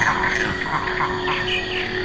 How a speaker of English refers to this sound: No, it is very, very noisy. It's a din. It's just this kind of sonic chaos. All these insects and birds and bats and mammals, it's almost as if they compete for acoustic space.